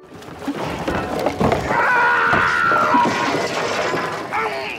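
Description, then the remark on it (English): A movie scream: Captain Quint's strained scream from the film Jaws rises out of a rough, splashing, crashing din, holding a high wavering pitch for about a second before trailing off under the continuing commotion. “You have scary ones, like Captain Quint from Jaws.”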